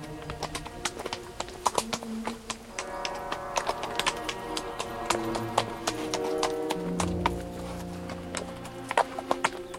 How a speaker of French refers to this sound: Le cheval allait d'un pas de profond sommeil.